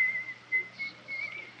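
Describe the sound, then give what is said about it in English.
A prison guard whistles a thin, wavering tune in short phrases as he approaches a cell in a British prison, fairly soft, over a low steady hum with no voices. “I hear the guard coming. He's whistling.”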